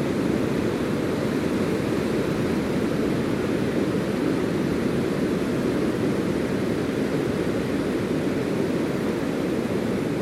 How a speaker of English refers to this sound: So I'll wrap the build there, I think. I'll take in a bit more of the ocean sounds.